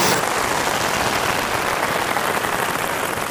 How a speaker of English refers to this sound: Great. Here they come. Give them a lovely round of applause.